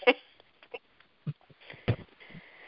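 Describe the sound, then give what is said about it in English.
Quiet, hissy breathing over a thin, band-limited phone line, with a few soft huffs and rustling bursts scattered across a few seconds and no talking. “Nobody want to talk. So we just play phone breathing.”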